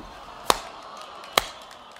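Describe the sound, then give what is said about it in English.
Two sharp, crisp claps about a second apart make a slow, deliberate clapping rhythm from a group of people slow clapping, over a faint steady background hiss, with no voices. “Why are you all slow clapping?”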